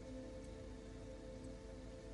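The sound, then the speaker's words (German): A brook babbles in a steady, unbroken wash of trickling water, with soft splashy texture and an even loudness throughout; no voices. “Vielleicht kannst du auch das Plätschern eines Baches hören.”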